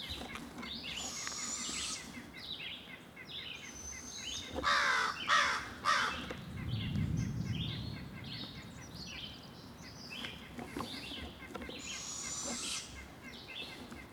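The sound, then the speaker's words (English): Several crows caw repeatedly and harshly in a tree, their calls overlapping in bursts, with a louder cluster midway and a steady wash of other bird chatter behind. “a red-shouldered hawk is in this tree with the crows.”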